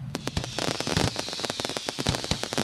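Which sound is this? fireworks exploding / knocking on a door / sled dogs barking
fireworks exploding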